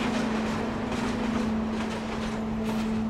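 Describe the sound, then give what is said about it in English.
A train rumbles steadily past at Roma Street Station, Brisbane's main transport hub, a constant low mechanical hum running beneath broad, rushing rail noise for the whole stretch, even in loudness. “Across the road from the police headquarters is Roma Street Station, Brisbane's main transport hub. From the air, it's a large grey artery of veiny train tracks running north to south.”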